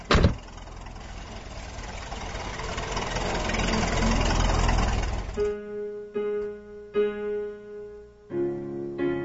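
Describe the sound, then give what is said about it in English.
A car engine rumbles low and steady for about five seconds, swelling slightly louder, then drops away as sustained musical notes take over. No one speaks. “get in the car quick.”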